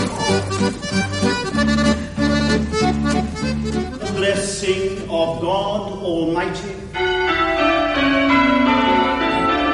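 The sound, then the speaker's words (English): Bells ring loudly and steadily throughout, their layered, overlapping tones forming a dense, resonant peal with no quiet gaps. “It began and ended with bells.”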